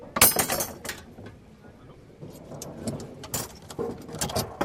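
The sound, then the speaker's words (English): Busy carpentry and construction work at a vocational training center in Berur village, Chad, with people sawing and planing planks and working with pliers: sharp clanks, taps and knocks come in irregular bursts over a low, steady background clatter, with no one talking. “Those sawing and planing planks are learning carpentry, while the mixture of Chadians and refugees are busy working with pliers and learning construction.”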